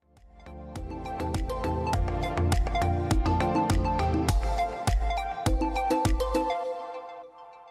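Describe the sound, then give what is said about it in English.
A mobile phone ringtone plays a bright electronic melody over a steady thumping beat, loud with no voices, then fades out over the last second. “I can't find my mobile phone. Look, here it is. But it's not mine.”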